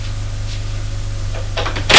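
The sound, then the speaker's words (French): A door opens after a stretch of low, steady room hum: a few quick clicks of the latch, then a louder, rushing scrape as it swings open at the end. “La porte est ouverte. Le bruit lui a fait lever les yeux.”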